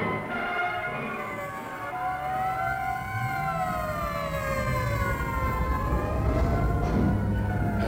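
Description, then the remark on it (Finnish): An ambulance siren, from ambulances sent by the fire station after a fire alarm about barracks on fire, wails steadily, its loud rising and falling tones sweeping slowly over a low rumble of engine and traffic noise, with no one speaking. “No, kun oli jo annettu palohälytys ja kun ne siellä paloasemalla kuuli, että meikäläisten parakit oli tulessa, niin pisti ambulanssit ilman muuta messiin.”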